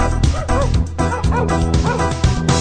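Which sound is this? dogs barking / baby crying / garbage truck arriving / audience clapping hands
dogs barking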